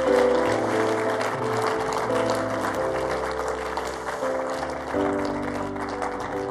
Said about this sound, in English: You're going to clap and clap. Come on.